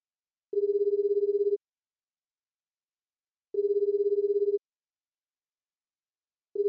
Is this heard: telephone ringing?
yes